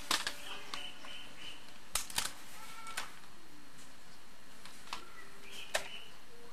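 Scattered calls of a zebra dove (perkutut), short tonal chirps and whistles mixed with sharp clicks at irregular intervals, over a soft outdoor background with no one speaking.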